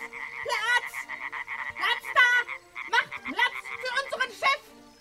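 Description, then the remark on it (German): A dense chorus of many frogs, including tree frogs, gathered at a pond, croaking together, many overlapping calls forming a busy, continuous clamor with repeated bursts of louder, warbling croaks. “Verehrte Amphibien zu Hause an den Empfangsgeräten, noch nie habe ich eine solch beeindruckende Menge von Fröschen an einem Ort versammelt gesehen.”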